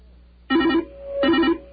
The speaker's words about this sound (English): Okay, that means that the radio's on in there, too, and the phone is ringing.